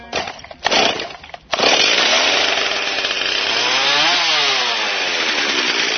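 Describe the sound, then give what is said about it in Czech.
A chainsaw sputters in short bursts, then roars into a steady, loud whine as it bites into wood, its pitch sweeping up and down with the cut, in the forests around Pirot in September during the firewood-cutting season. The forest setting comes through. “Zvuk motorne testere odjekuje ovog septembra u pirotskim šumama.”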